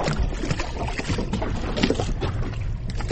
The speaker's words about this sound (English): The National Park of Bunaken near Manado in northern Indonesia lies in the heart of the Coral Triangle. Early one recent morning, several small boats rocked gently on the turquoise water, each with a few scuba divers getting ready to jump in